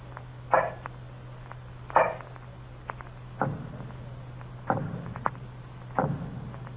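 A handful of dull, muffled knocks made with an earthenware jug against a dungeon wall, each answered by knocks from the other side of the wall, landing a second or so apart, some sharper and some heavier, over a steady low hum.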